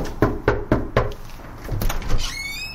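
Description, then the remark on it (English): Four firm, evenly spaced knocks on the front door of a home in Oakland, California, followed by a few softer thuds and a brief high-pitched squeak. “Do you not like the knocking?”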